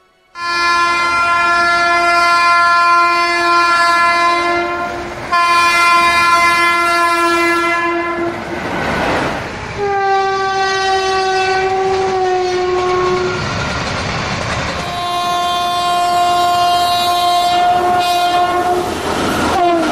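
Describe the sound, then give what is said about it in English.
A train's loud horn blasts in long sustained chords, repeated several times as the train passes by, with rumbling wheels and rail noise between the blasts; no one speaks. “The train. The mighty war cry of this creature strikes terror into the heart of every Pajit.”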